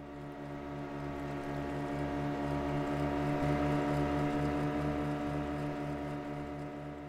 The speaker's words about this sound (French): C'est très calme. Enfin, pas toujours. Les bateaux à moteur font du bruit.